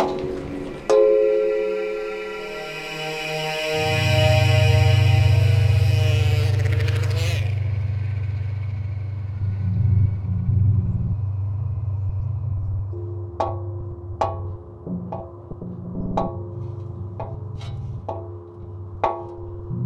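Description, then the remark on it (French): An airplane passes overhead above houses: a whining engine tone slides downward in pitch as a deep, loud rumble swells, then slowly fades, with a few sharp clicks near the end. “Des fois, il y a des avions qui passent au-dessus de nos maisons, ça fait un gros bruit, ça.”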